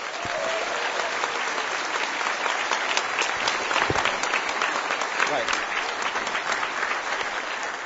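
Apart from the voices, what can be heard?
audience round of applause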